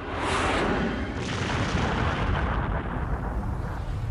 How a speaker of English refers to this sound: The unreal sight was followed by a deafening bang as a powerful shockwave swept through the surrounding area. The wave swept people off their feet and shattered windows hundreds of kilometers away.